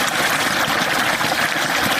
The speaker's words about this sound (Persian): این صدای آب روان را شاید مردم در مناطق جنوب و جنوب غرب افغانستان کمتر بشنوند، زیرا سطح آب پایین آمده و مشکلات ناشی از کمبود آب در بسیاری مناطق افزایش یافته است.